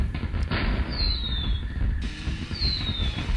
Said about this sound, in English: Goes the fireworks there.